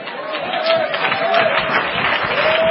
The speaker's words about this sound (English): There's just a little spattering of applause here. Not that I'm asking for your applause, but it's like some people don't really believe that.